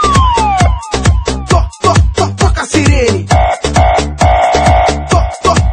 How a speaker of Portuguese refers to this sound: Toca a sirene.